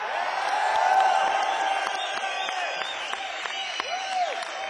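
A crowd applauds and cheers for a drummer, dense clapping mixed with shouts and a few rising and falling whistles and whoops, holding at an even, fairly loud level throughout.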